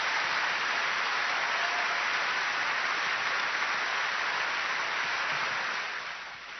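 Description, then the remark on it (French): A large audience at a conference in Lausanne, Switzerland, applauds the Lord, clapping continuously in a dense, steady roar with no voices standing out, holding loud for several seconds before easing slightly at the very end. “On va applaudir plus fort encore le Seigneur parce qu'on m'a dit que les Suisses étaient dynamiques.”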